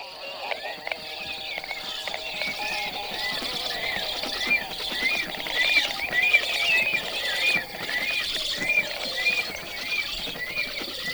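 Two storks hold a noisy conversation before going to sleep, calling back and forth in a lively, continuous exchange. They mix short high whistles with harsh, saw-like grating rasps that repeat steadily and never pause.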